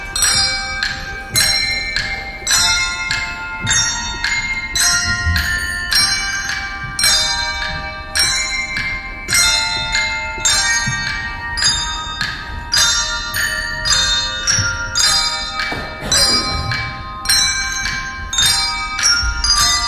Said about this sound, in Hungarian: Végezetül pedig hallgassunk meg egy részletet a vizsai csengettyűs gyerekek előadásából.